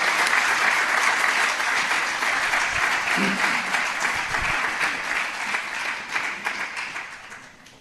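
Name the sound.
applause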